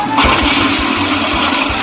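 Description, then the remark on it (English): A loud toilet flush sound effect: a sudden rush of churning water that starts almost immediately and roars steadily with a low, pulsing gurgle underneath, with no talking. “Flushing stuff.”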